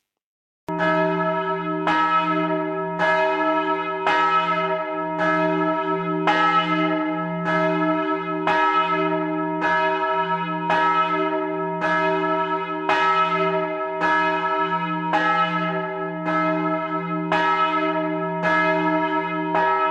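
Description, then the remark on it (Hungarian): A large, deep church bell, cast in 1927 by master bell founder László Szlezák and recently restored, weighing 1090 kg with a 124 cm lower diameter and a D-sharp tone, is struck repeatedly from outside at a steady rhythm, roughly every second, each tone overlapping the last in a loud, sustained peal with no talking. “harangja Szlezák Lászlónak, amit a közelmúltban restauráltak és újítottak föl, és ez most felülütős módon szólal meg, és ezért is hoztam ezt a harangot. 1090 kg-os, 124 cm alsó átmérői diszhangú, és 1927-ben készítette a mester.”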